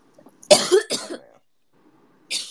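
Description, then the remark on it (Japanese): A burst of harsh coughing, two or three quick hacks in quick succession, followed after a pause by one more short cough, loud, with no talking. “俺より咳出てるじゃん。”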